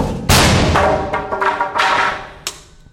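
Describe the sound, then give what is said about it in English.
A loud, sharp blast as a cannon fires a projectile at a double-thickness sheet of plywood, then a string of softer knocks and thuds rattles on over the next few seconds as the projectile bounces off without piercing it. “We aim the cannon at another sheet of plywood, this one twice as thick. Firing in 3, 2, 1.”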